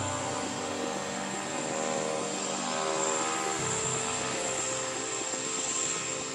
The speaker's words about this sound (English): Once the door is shut, and once I spin the turbine and the engine starts, they get very, very quiet.